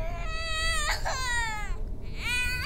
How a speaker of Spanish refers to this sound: ¿Escuchas? Esa guagua otra vez, ¿no ve? Llora y llora.